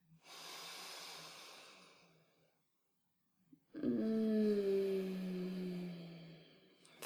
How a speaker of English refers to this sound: Feel that sexual energy, breathing in that sexual arousal, focusing it down into your cock, building that pleasure. And as I keep talking to you, keep breathing in like this and breathing out.